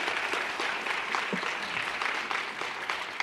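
An audience claps steadily, a dense crackle of many hands sustained at an even level for a few seconds, with no voices standing out above it.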